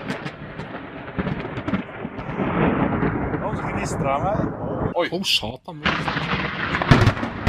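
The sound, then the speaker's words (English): A loud, rumbling thunderclap from a lightning strike about 5 yards from a man crashes and rolls on for several seconds, with sharp cracking bursts near the end. The strike burned his entire yard black. “This is a lightning strike right here.”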